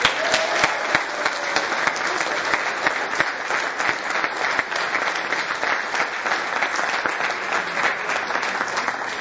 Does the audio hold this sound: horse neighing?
no